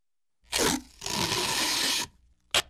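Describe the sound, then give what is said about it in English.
Sticky tape is pulled off a roll with a loud, rasping rip: a short tug, a longer steady peel of about a second, then a final quick snap, clear with no voices. “Tape.”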